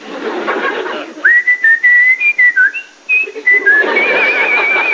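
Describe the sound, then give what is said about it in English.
A person whistles a bright, catchy TV theme tune, a run of short clipped notes giving way to longer held ones, with soft background noise underneath and no talking. “he was whistling the theme tune to Sports Night”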